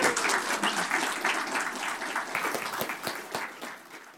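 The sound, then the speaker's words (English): An audience applauds a pastor as he comes up to speak, dense, sustained clapping, a steady wash of many hands that stays loud throughout and tapers off slightly at the end. “Would you guys give him a round of applause as he comes up?”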